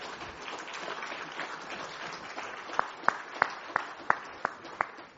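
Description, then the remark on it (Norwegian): An audience applauds steadily as a speaker takes the floor, a dense wash of clapping. Near the end about seven sharp, evenly spaced claps ring out loudly above the crowd. “Jeg er mest interessert i å få applaus.”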